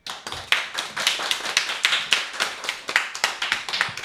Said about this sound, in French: un public là qui est encore plus nombreux parce qu'il y a aussi des petits photographes qui sont venus prendre quelques photos de notre plateau radio, de notre activité radio, et ils peuvent vous applaudir pour vous encourager.